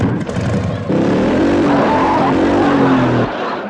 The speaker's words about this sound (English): 110 miles an hour on a motorcycle?